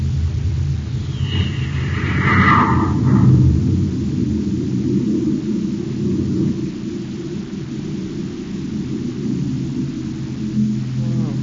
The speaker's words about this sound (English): Close the hatch. I'll blast off. Okay, Hap. Stand by for blast off. Standing by, sir. Close port. Close port. Fire jet. Fire jet. Up ship and away.